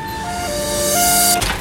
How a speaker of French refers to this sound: Ils ont posé leur QG dans un quartier très passant de Tunis, là où la voiture est reine. Et là, c'est l'heure de pointe.